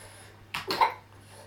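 child coughing

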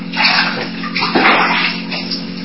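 running shower water

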